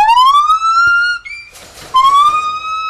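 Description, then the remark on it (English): A pair of blonde-colored gibbon apes at Dana Savarelli's exotic animal sanctuary on a 10-acre plot sings loud, siren-like whoops: two long rising tonal calls with rich harmonics, separated by a brief rustling burst, with no one talking. “That's a pair of blonde-colored gibbon apes just singing away.”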